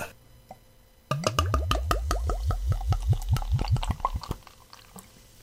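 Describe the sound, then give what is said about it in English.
Wheat beer glugs from a growler into a glass in a quick, steady run of a dozen or so gurgling pulses, loud, rising in pitch as the glass fills, then tapering off abruptly. “Oh, that's a good pour.”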